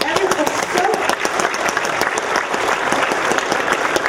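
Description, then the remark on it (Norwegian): A conference audience breaks into sustained applause for all the helpers and for Det Norske Teater, a dense, steady wash of many hands clapping at full volume for several seconds without letting up. “Ja, i hvert fall det blomster og t-skjorter til dere, og en stor applaus både til alle hjelpere og til teatret som har hjulpet oss gjennom disse dagene.”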